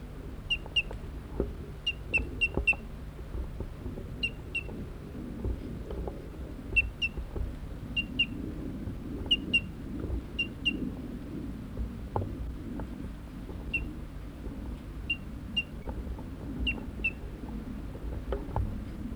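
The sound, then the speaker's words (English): A bird perched on a nearby tree sings beside another bird surrounded by a net, giving short, high-pitched chirps in quick pairs and clusters, repeated at irregular intervals over a low outdoor hum and rustling background. “So 5-8 surrounded by the net, 4-8's on a tree nearby, singing, and I pointed at bird 5-8.”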